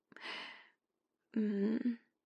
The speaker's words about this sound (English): Your yawning is making me yawn.